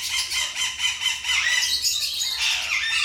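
A parrot squawks loudly and repeatedly in harsh, shrill bursts that run together for several seconds, with no voices present.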